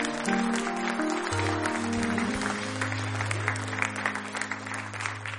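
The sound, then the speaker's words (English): A large crowd claps steadily in praise throughout, a dense wash of many hands with sustained low musical tones beneath, continuous for several seconds. “Give him a hand clap of praise tonight.”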